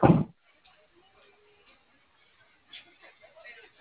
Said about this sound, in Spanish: ¿La puerta se me desbloqueó? Sí, abro las dos.